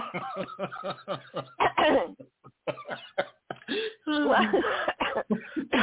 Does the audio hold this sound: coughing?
yes